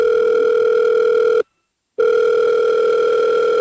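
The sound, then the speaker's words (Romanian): A loud, steady telephone ringback tone of a call to Cristian Corvin sounds alone, a long buzzing ring that stops for about half a second and then starts again, with no voices present. “Cristian Corvin la telefon, doamnelor și domnilor.”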